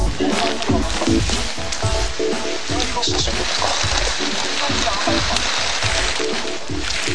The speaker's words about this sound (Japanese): 雨が降ったりかな、降りのね。